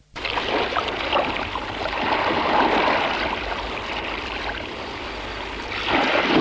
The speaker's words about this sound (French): Le père ouvre la porte de la maison. Le vent, la mer, la nuit noire.